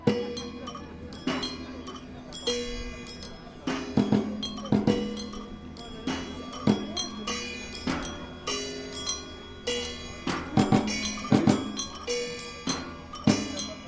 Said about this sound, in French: Mais tu te sers de la mécanique de l'horloge. C'est l'idée. Là, tu vois, par exemple, c'est un carillon d'horloge... Est-ce qu'il va marcher de temps en temps, peut-être ? Il y a des coups de temps en temps.